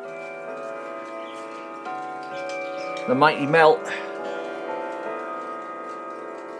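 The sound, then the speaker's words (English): Several cuckoo clocks tick together in a steady, overlapping rhythm beneath a sustained tonal hum, with a short burst of speech breaking in near the middle. “For some reason, my big clock hasn't chimed.”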